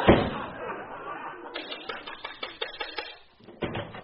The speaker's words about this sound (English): My head. You slammed the door on it.